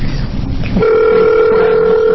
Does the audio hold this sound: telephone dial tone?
yes